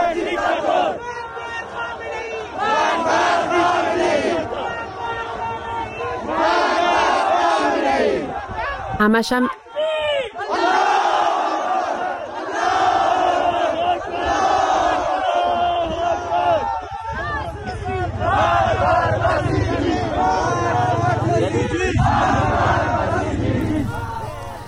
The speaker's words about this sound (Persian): این صدای مردم معترض در زاهدان بود.